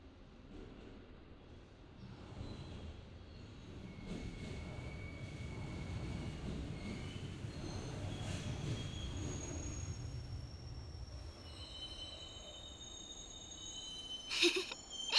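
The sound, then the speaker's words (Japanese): A train rumbles in and grows louder, with high-pitched wheel squeals and brake screeches streaking above the low rolling noise, ending in a sharp metallic squeal as it pulls in. “電車が来ちゃいましたね。”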